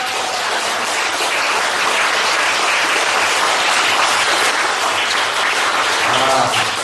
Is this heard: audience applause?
yes